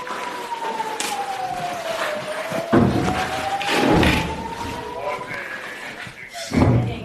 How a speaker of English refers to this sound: We hear Israel's air defences intercept the barrage overhead.